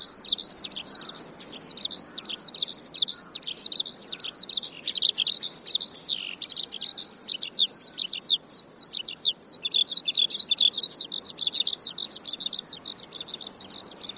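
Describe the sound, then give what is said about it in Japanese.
A skylark sings nonstop, pouring out rapid, high twittering trills and chirps in a continuous, busy stream, clear over faint background hiss, with no voices. “誰もが知っているヒバリですが、実際に見たことがある人は少ないかもしれません。これほどにぎやかに、しかも泣きっぱなしなのですから、当然目立つはずです。”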